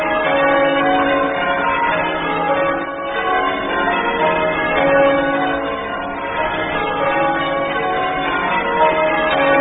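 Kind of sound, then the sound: signal or alarm, church bells ringing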